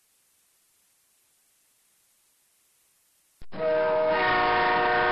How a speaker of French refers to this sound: C'est le train, monsieur. Oui, c'est le train